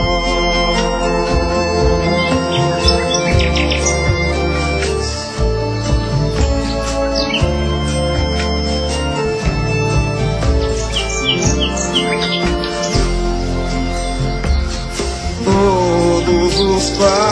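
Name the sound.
birds chirping and singing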